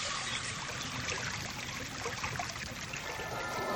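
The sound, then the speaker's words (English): Steady running water, distorted using particle detector collision data, with a rushing, slightly warped and granular texture, continuous and fairly loud throughout with no voices. “Here we are hearing exactly the same event, except the data has been used to distort an existing sound, that of running water.”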